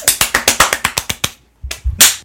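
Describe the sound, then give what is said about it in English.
A quick, even run of about a dozen sharp hand claps over a second or so, then a short pause followed by a few louder, rougher bursts of noise. No one speaks. “Just clapping really fast like that.”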